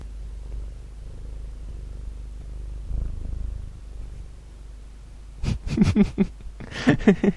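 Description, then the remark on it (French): A cat purrs with its nose pressed against the microphone, a low, steady rumble with a soft rhythmic pulse lasting several seconds, before a person starts speaking over the final couple of seconds. “Alors là, je sais pas si vous avez entendu, mais il y a mon chat qui avait la truffe collée sur le micro, c'était pas mal.”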